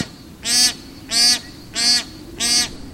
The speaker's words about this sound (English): High in the sky fly bar-headed geese. Twice a year, these amazing birds migrate over the Himalayas, the tallest mountains on the planet.